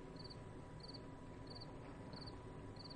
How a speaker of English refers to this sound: I hear the crickets.